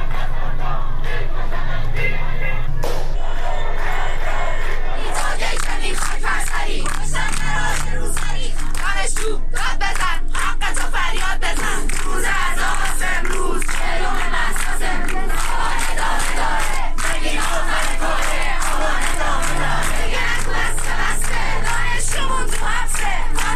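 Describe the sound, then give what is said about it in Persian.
A large protest crowd in Iran (Saqqez and dozens of other cities), on the fortieth day after Mahsa Amini's death, chants slogans against the Islamic Republic and its leader in loud, rhythmic unison, massed voices rising and falling in steady bursts with scattered shouts throughout. “سقز و ده‌ها شهر دیگر ایران روز دوشنبه 4 آبان در 40 مهسا ژینا امینی صحنه تظاهرات اعتراضی و شعار علیه جمهوری اسلامی و رهبر آن بود.”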